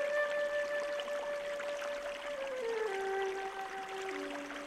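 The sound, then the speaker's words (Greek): A stream flows steadily with a continuous soft rushing hiss, moderately quiet and unbroken throughout, while faint sustained tones glide slowly downward above the water noise. “Εκεί στο ριάκι σταμάτησε τ' άλογο και σκύψε να πιει νερό.”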